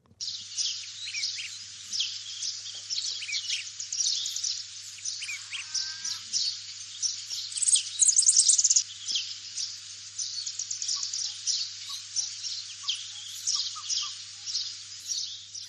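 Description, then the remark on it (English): A dense chorus of birds chirping and trilling continuously, many overlapping high-pitched calls at moderate loudness, with a steady low hum underneath and no talking. “I know I've been paying more attention to the chirps and trills of the birds around my neighbourhood, and the feeling is one of peace, tranquility.”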